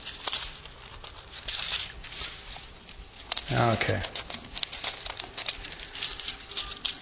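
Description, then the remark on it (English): Pages of a new Bible are turned, rustling and fluttering in a series of soft, papery crinkles, with a brief murmur partway through. “All right, turning the page.”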